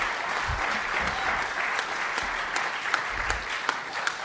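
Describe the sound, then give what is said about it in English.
A crowd in Indy applauds steadily for Soma Church and Day Spa, a dense wash of many hands clapping at an even level throughout, with a few sharper individual claps popping out above the texture. “Hey, let's clap it up for Soma Church and Day Spa.”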